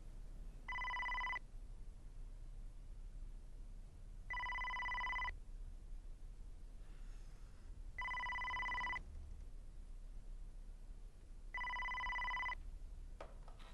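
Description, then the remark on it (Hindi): A telephone rings four times as a call is being dialed, in an evenly spaced pattern, each steady electronic tone lasting about a second with long pauses between, heard clearly over a low background hum with no one talking. “उसको फोन जरा दो, देखो। एक मिनट, अभी मिलाती हूं।”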